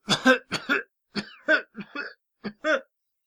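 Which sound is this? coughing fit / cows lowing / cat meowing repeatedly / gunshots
coughing fit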